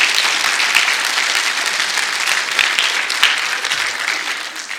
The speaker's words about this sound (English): If you've experienced that, can you give Jesus a hand clap? Come on, you've experienced it.